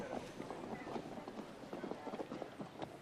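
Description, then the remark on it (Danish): A horse carrying bags full of Norwegian slate trots along a road in a steady, rhythmic clatter of fairly loud beats that continue evenly for a few seconds, with a faint background murmur. “Hans nye hest er klar til selv at trage ned ad vejen, og taskerne over ryggen på den er fulde af den norske skifer til slibesten, han har købt i Aros.”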